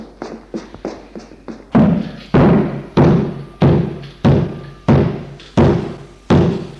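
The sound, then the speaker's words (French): Several quick, light taps give way to heavy, evenly spaced thuds, someone pounding hard on a locked cellar door about eight times in a steady rhythm while trying to open it. The banging is loud, and no one speaks. “Il essaye d'ouvrir la porte.”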